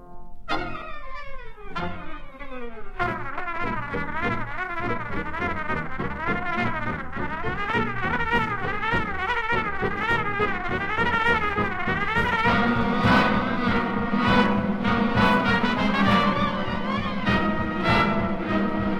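A big band swing arrangement with a fast trumpet racing through rapid, buzzing chromatic runs over a steady rhythm section; the full ensemble swells louder toward the end, with no voices.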